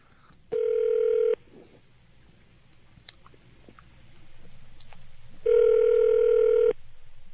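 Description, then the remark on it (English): A phone line rings out after a number is dialed: two long, steady buzzing ring tones separated by a pause of several seconds, with only faint low background noise and small clicks in between. “Press each number down firmly.”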